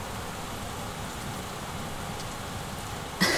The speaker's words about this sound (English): It's just a storm. Nothing to be afraid of.